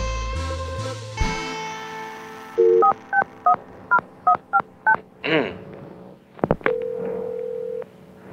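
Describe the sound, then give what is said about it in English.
A string of about eight short, evenly spaced touch-tone beeps as a number is dialed on a wiretapped phone call, followed by a clicking connection and a steady ring-like tone, all clear with no talking. “This is an actual wiretap from a phone call”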